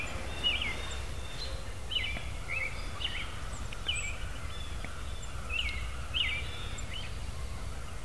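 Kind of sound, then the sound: bird, wild turkey hens calling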